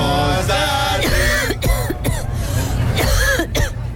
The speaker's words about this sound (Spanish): todos festejando y yo sin poder acercarme por este ataque de tos que tengo.